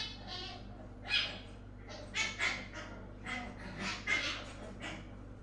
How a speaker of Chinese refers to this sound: 可能是邻居家养的小土狗，公子不用害怕。